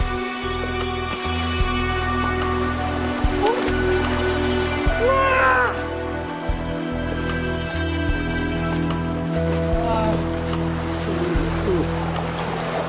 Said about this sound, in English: After the hot plains, coming across a river like this will really lift your spirits.